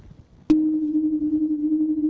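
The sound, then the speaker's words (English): After a brief quiet moment, a sonified solar oscillation tone made from ground-based data of the Sun switches on abruptly and holds as a steady, pure mid-pitched hum, its loudness wavering in a gentle beating pulse because its frequencies are concentrated in a narrow range. “This is a cosmic piccolo. Yeah, these are ground-based data because I like to show them.”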